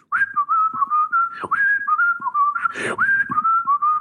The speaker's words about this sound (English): I am going to whistle my way into chambers, and when I have a decision, I will return.